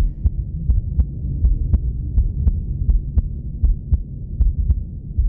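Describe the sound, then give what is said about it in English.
A steady, amplified heartbeat thumps in regular paired beats, clear, over a continuous low whooshing rush that pulses faintly in time with it; a patient's own heartbeat listened to together with a doctor. No one speaks. “And then I hear something else, almost like a swish behind the sound, but regular. And my doctor tells me it's mine, it's my heartbeat.”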